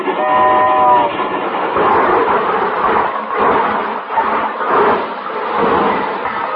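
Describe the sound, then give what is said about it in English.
A train rumbles and clatters steadily along the rails, loud, with a brief horn blast at the start and a rhythmic swell of wheel noise throughout. “Why, when the presidential special pulled in, I'm the guy who stood on the platform singing, waiting for the train to come in, waiting for the train to come in.”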